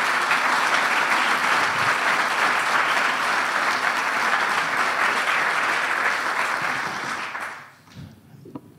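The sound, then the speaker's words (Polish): Loud, sustained applause from a large crowd at a congress, thanking the volunteers who prepared it, a dense steady wash of clapping that holds for about seven seconds before fading out quickly, with a few scattered claps at the end. “Wielkie brawa.”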